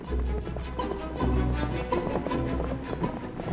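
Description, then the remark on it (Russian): Several horses ridden by a troop of riders trot along at a light, steady pace, their hooves clip-clopping in a quick, uneven rhythm over a low rumbling background, loud with no voices. “После этого они вскочили на своих коней, и отряд мелкой рысью направился в сторону Татайских гор.”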